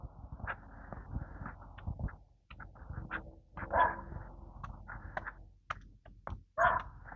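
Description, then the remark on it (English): A small dachshund with a fluffy flag tail, out with dog walkers on a warm day, lets out a few short, high whimpers and yips, spaced irregularly over steady low outdoor rumble and rustling, with no talking. “Couple of dog walkers here coming up. What do they have? Dachshund?”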